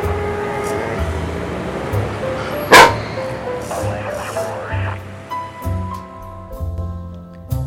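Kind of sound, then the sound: animal, dog barking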